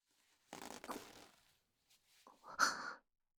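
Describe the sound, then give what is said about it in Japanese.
A rasping zipper is pulled down in a quick stroke, followed a moment later by a second shorter, louder rustling burst with a faint tonal edge. “チャック下ろすわ。”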